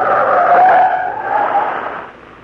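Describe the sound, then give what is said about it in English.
A loud, sustained screech of skidding tires as a speeding truck tears past, the squeal wavering in pitch before easing off slightly at the end. No one speaks. “Truck go very fast.”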